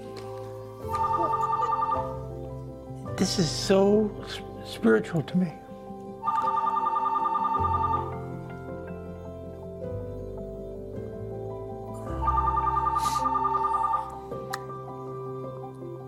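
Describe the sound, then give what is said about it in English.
A telephone rings three times in steady, evenly spaced trilling bursts, loud, while a person speaks briefly between the first two rings over a low background hum. “Let the phone ring.”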